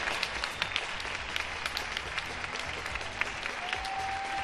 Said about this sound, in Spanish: Pues os tengo que decir que una semana después parece más multitudinario el aplauso de toda España a nuestro personal sanitario, a todos los que son imprescindibles con su trabajo estos días.